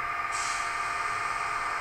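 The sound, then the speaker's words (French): A steady mechanical hum with a bright, airy train brake hiss breaking in after a moment and continuing at a constant level, fairly loud, with no voices. “Alors même avec le bruit, on a le bruit du frein.”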